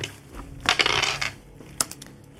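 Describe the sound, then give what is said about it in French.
Dice rattle and tumble for about half a second, then clack down onto a hard surface with a few sharp, separate clicks as they settle. Fairly quiet, with no voices. “Vas-y, lance les dés, mentir, convaincre.”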